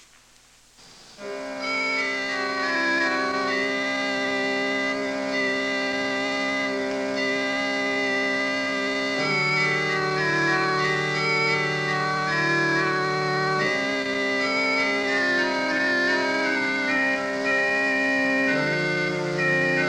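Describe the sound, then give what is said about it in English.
An early Renaissance organ keyboard piece by an unknown composer, one of the earliest keyboard pieces on record, plays alone: sustained, reedy chords with a moving upper melody line, steady and fairly loud, the low bass notes shifting every few seconds. “For example, listen to this early keyboard piece written for the organ by an unknown composer of the early Renaissance.”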